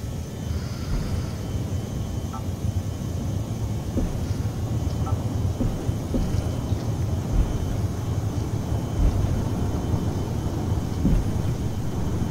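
airplane engines

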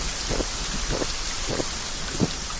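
rain falling

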